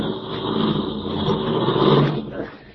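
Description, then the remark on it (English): A car engine rumbles steadily as the vehicle drives along in the rain, its sound swelling slightly before easing off as it slows and pulls to a stop to block the road. “I'll block the road with our car, and she'll have to stop.”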